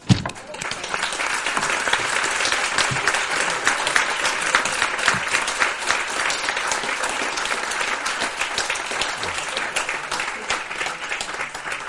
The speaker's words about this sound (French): Les applaudissements témoignent justement de l'intérêt qu'on a eu à vous écouter toutes les deux et aussi au charme qu'on a ressenti dans cette langue très expressive que vous avez.